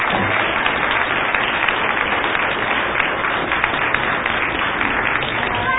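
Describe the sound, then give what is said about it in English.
An audience applauds steadily for everyone who came out, a dense wash of many hands clapping at an even loudness for about six seconds, with no voices standing out. “We appreciate everyone that came out, and we want to give them another hand of applause.”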